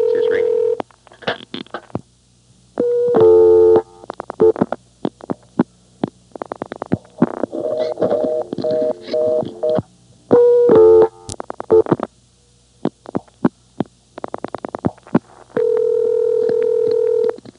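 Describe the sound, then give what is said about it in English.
Electronic telephone line ringing tones on line 7 come in several steady bursts with gaps between them, mixed with clicks and line noise over a low hum. No one speaks. “Well, this is 7. It's ringing also.”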